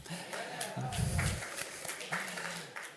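An audience claps steadily for about three seconds, a dense patter of many hands at an even, moderately loud level, with a few voices murmuring underneath.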